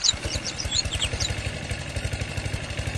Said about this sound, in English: But I'm having a little trouble trying to figure out how this lawnmower works. Oh, wait a second. I know the problem. There's this loose string over here. Let me just yank it off.